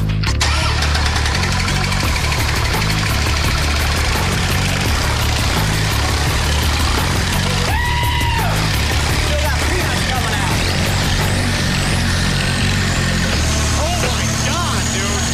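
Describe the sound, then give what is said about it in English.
An old diesel motorcycle engine is started by turning the crank and settles into a loud, steady rumble, popping and banging, its deep throbbing running unbroken through the whole stretch with a rough, uneven texture. “This thing turned over, it was like this rumbling motor, like it reminded me of like an old like semi or tractor from the farm.”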